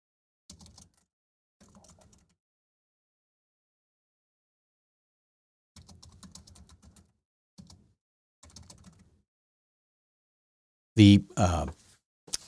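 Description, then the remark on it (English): Short, quiet bursts of someone typing a message on a computer keyboard, rapid key clicks separated by pauses, followed near the end by a louder, brief rustling thump. “I'm typing something to my wife here.”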